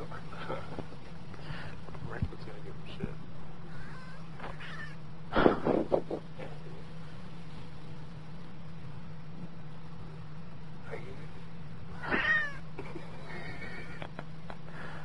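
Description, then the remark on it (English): A cat yowls in two drawn-out, wavering caterwauls several seconds apart, each loud and strained, over a steady low electrical hum with faint background noise. “Oh my god, that cat.”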